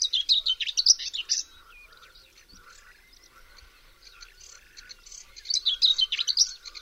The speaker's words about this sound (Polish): Pokląskwa zamieszkuje wilgotne łąki i nieużytki. Jej śpiew to krótki, niespójny i zgrzytliwy świergot.